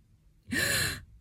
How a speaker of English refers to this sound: I gasp in surprise, and your other hand tightens around my throat.